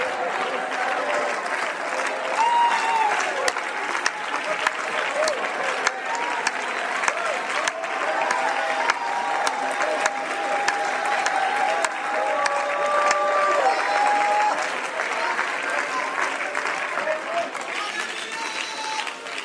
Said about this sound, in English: Clap your hands again and shout, shout, shout, shout for the victory. Shout for the miracle. Yes!